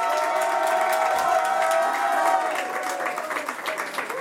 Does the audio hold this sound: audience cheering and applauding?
yes